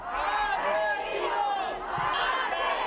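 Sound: crowd of protesters shouting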